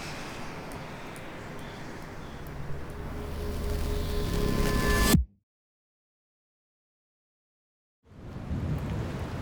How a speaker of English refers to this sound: The night of Owen, we wait out the storm at the Solberg Community Center. During Category 5 storms like this one, some of the island's houses and better-funded community centers will use a battery bank to keep their power uninterrupted.